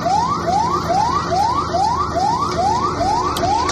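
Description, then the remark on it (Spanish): Border alarms blare continuously from the Moroccan side around 7:45 in the morning as a group of about 1,200 people attempts to jump the border: a rapid rising whoop repeating about twice per second, loud and steady over a constant low hum of background noise, with no voices. “Y de nuevo, las alarmas empezaron a sonar.”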